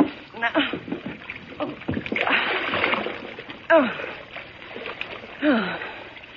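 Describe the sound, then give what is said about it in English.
A heavy splash as someone drops into the water of a low bathtub, followed by churning and sloshing for a couple of seconds, with strained voices and gasps around it, fairly loud. “Thanks for falling into the water”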